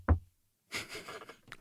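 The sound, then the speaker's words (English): A single sharp knock of knuckles on wood, done to wish oneself good luck, followed after a brief pause by a stretch of softer, scratchy rustling noise. “We're talking about knocking on wood, and it's actually not for good luck.”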